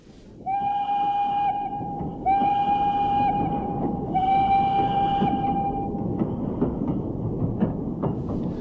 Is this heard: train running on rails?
yes